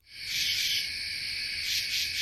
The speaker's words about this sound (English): And we listen to the crickets because we've been listening to the crickets, but we've also been listening to the katydids. You can hear them in this recording. They sound like they might be saying, Katy did, Katy didn't. You hear that?